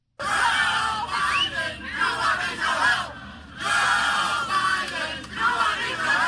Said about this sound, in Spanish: Con gritos de Joe Biden, Cuba necesita su ayuda. Entre 1.500 y 2.000 cubanos se reunieron primero frente a la embajada cubana en Washington, D.C. y posteriormente frente a la Casa Blanca para dar su apoyo a los ciudadanos que se manifestaron